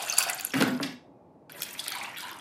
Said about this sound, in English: So before you start frying everything up, you have to mix water with the tamarind paste. You just do that up until you you have like a good amount of mixture.